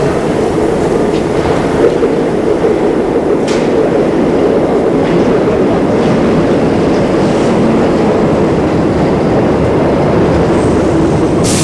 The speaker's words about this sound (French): Le métro arrive.